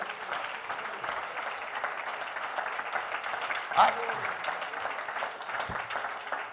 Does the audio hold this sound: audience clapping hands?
yes